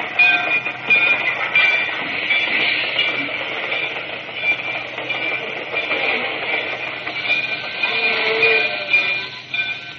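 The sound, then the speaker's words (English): A train rolls steadily along the rails, a loud, continuous rumble with a high metallic whine and faint rhythmic clatter throughout, with no voices. “I left Dendridge's room, found Norris, and hustled him into one of the baggage cars, and we stayed there until the train made its first regular stop.”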